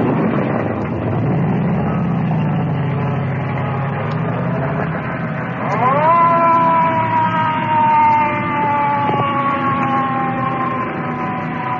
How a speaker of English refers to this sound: Ambulance disappearing in the traffic.